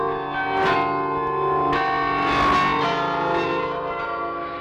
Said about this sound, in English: I'm sure that most of you recognize this. It's Merk Toch Hoesterk, our interval signal that would announce Radio Netherlands' arrival to the shortwaves. And we'll play the bells to the end, and when they finish, we'll do something a little different.